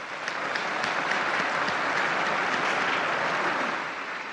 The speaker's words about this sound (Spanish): Un aplauso para el nuevo Beato.